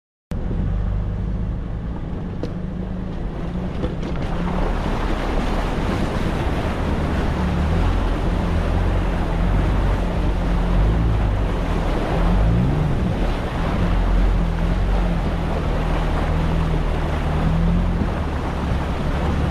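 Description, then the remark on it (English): A truck engine drones low and steady while rushing, splashing water roars continuously around it as the truck drives through a deep stream crossing, loud for the whole stretch. “These are all separate stream crossings. And every one of them was deeper than the last, but the truck made it through no problem.”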